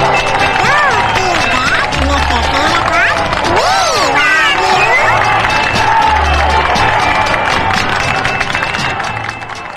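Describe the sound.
A crowd claps and cheers loudly and steadily for the whole stretch, with whoops and rising shouts over a dense wash of applause and a background of voices.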